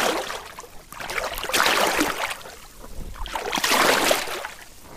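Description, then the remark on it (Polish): Water sloshes and splashes in two broad surges, like steps wading in rubber boots through the shallow, fast-flowing Drawa river on a firm bed, water seeping into the left boot, fairly loud with no voices. “Proszę Państwa, stoję w wodzie i czuję, że mi do lewego kalosza napływa woda.”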